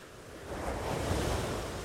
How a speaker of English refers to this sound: Ugh. Shut up, waves. stupid waves. Waves.